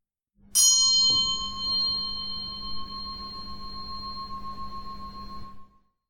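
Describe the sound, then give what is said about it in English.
A single bell is struck once for vespers and rings out with a clear, resonant tone, its steady overtones humming for several seconds before fading away. No voices are present. “The bell rings, and we put down our axe and move to the chapel.”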